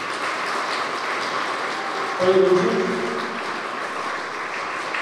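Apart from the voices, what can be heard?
audience applause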